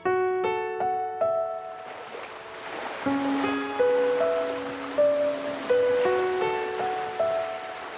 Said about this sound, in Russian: Море спокойное и ослепительно синее, умиротворяюще шумело, шептало, что в мире нет зла, а есть только преломление солнца в воде, игра теней и света, и смерть – часть этой игры.